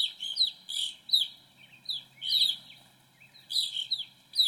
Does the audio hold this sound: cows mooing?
no